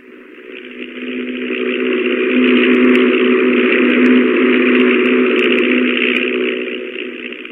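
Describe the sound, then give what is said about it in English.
The engine of an old, rickety propeller stunt plane drones steadily in flight while it flies upside down with a wing walker aboard, a low rumbling hum with a buzzy upper tone that swells in loudness early on and then holds constant. No voices. “One day he went up in that rickety plane with the trick wing walker, Tim Robin, to perform the hazardous stunt of flying upside down over a long distance.”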